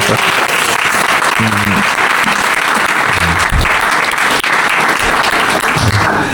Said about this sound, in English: Wonderful, wonderful, wonderful. I think this deserves a good applause from our side.